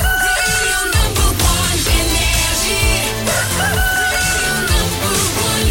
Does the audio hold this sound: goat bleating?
no